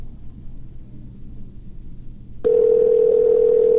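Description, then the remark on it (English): After a couple of seconds of low rumbling, a loud, steady telephone ring tone starts up abruptly and holds unbroken to the end, as an outgoing call rings without anyone answering. No one speaks. “And see, I'm scared to leave a message. Yeah, don't leave a message.”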